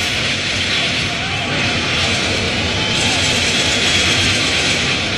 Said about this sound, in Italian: Godiamoci i rumori del Nürburgring e anche i fuochi d'artificio.